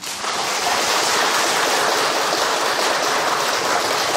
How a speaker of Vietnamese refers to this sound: Cho anh tràng pháo tay.